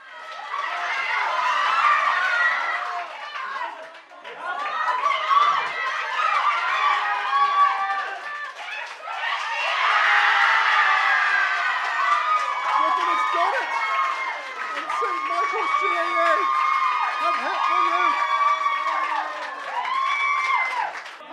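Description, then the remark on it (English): A packed crowd in St. Michael's GAA Club erupts in loud, sustained screaming and cheering, many voices overlapping in high excited shrieks that swell and dip for about twenty seconds with only brief lulls. “Then the screaming started in St. Michael's GAA Club.”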